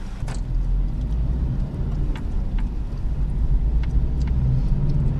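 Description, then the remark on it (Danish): A car engine idles steadily at the gate checkpoint of Dobrova correctional institution while a man checks under the car for bombs or smuggled goods, a continuous low rumble with a few faint clicks and taps over it and no one speaking. “Han kigger under bilen efter bomber.”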